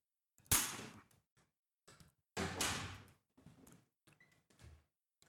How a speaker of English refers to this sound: you can just pull the door.